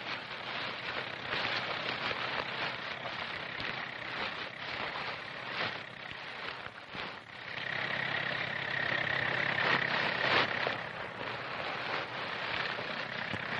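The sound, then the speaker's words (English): Tractors pulling disc breakers drone steadily as they loosen roots and grasses in thick topsoil to clear land, a rough engine rumble mixed with scraping, grinding noise, swelling louder toward the middle with a faint whine before settling back. “The roots and grasses in the thick topsoil are loosened by tractors and disc breakers.”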